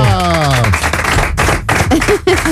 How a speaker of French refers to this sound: Applaudissements pour Artus.